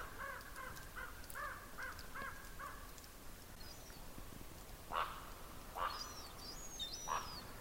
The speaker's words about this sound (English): They do make wonderful sounds. Besides that croaking, all those other funny sounds are theirs too. Two ravens seem to be playing, chasing each other, doing those rolls.